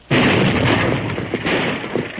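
blasting powder explosion

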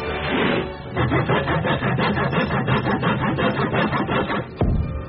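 sawing

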